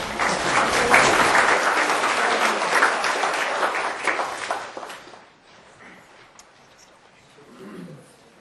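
An audience claps for a speaker from physics in a dense, steady burst of applause for about five seconds, then it fades quickly, leaving only faint scattered sounds and a brief low murmur near the end.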